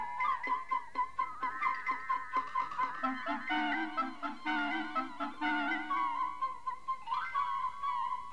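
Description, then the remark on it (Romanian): A hen that has escaped an old woman's hands runs off along the road, clucking in quick, rhythmic bursts that run into longer, agitated cackling, loud, with no voices. “Biata găină, cum scăpă din mâna babii, fugi pe drumuri.”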